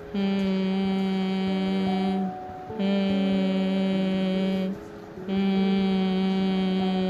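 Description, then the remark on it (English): A person hums three long, steady sustained notes as a vocal warm-up, each held about two seconds with short breaths between, clear with no other talking. “So I'm going to start right now with humming.”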